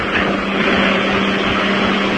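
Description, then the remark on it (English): A sewer jetting machine, heard over a phone, blasts water through a sewer to clear grease from a Chinese restaurant, in a loud, unbroken roar, a dense hiss layered over a steady low engine drone that holds constant from start to finish, with no voices. “Hey, now it's blasting the water into through the sewer.”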